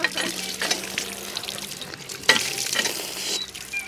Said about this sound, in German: Und draußen sprudelt auch das frische Wasser der alten Heilquelle wieder. Und jetzt sind wir am frischen Kenzer Wasser.